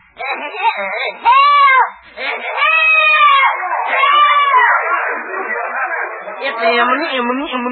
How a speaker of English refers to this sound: Okay, …, start yelling now.